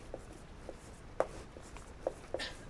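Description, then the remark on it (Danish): Someone writes the word "forelskelse" on a board, producing a handful of short, irregular taps and scratchy strokes, quiet, with no one speaking. “Så her skriver jeg forelskelse.”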